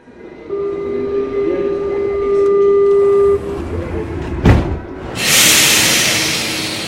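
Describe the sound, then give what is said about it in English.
A Mexico City subway train rumbles through a metro station, a steady high-pitched tone sounding over the rumble, then a sharp clank followed by a loud hiss of air brakes near the end. “Every day, 5.5 million people ride Mexico City's subway with its 195 stations and 140 miles of tracks.”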